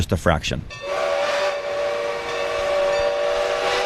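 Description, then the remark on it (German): The Skunk Train, a heritage tourist train in Northern California, sounds its steady, high whistle for about three seconds after a brief rumble of chugging, a bright sustained tone over a low mechanical hum. “Und dann ist da noch die Touristenattraktion der Region, der Skunk Train.”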